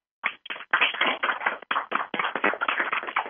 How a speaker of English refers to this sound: I'm going to unmute the lines, I want everyone to give a round of applause for our special guest tonight, Barry Morrow. Just a moment. Okay. We are unmuted. Let's go, guys.